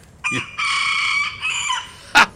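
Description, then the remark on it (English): A rooster on a farm, which sleeps in the beams of the cart shed, crows around 4 o'clock in the morning: a single loud cock-a-doodle-doo with a short opening note, a long sustained harmonic middle and a falling end, followed by a brief sharp squawk. No one speaks. “And about 4 o'clock in the morning at this time of the year, he starts, would you believe, he starts crowing.”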